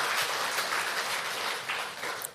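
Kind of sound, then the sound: crowd, audience applauding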